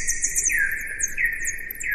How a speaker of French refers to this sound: Et donc Gaëlle, qui a la technique, va nous passer un son d'écholocation. Là, on entend plusieurs cris. On entend qu'il y a deux notes.